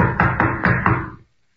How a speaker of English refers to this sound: Pounding on the door isn't going to do any good either. Whoever's in there evidently doesn't want callers today.